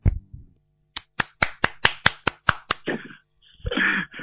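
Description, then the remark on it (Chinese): Clapping at a Buddhist teaching session, in praise of a fellow disciple's remarks, breaks out as a quick, even run of about eight sharp, loud claps, then dissolves into a rougher, blurred wash of applause before it fades. No voices are heard. “是不是要跟他鼓掌了？”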